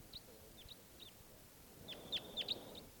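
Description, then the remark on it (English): Short, high chip-like crossbill calls repeat in small bursts, sparse early on and then a denser cluster of sharper, louder notes near the end, over a low background rumble. “I heard a greeting song or something of a crossbill.”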